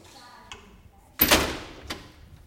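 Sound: door being closed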